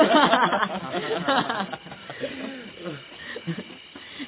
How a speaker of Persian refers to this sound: این صدای چیه؟ شغاله. این منطقه پر از شغاله.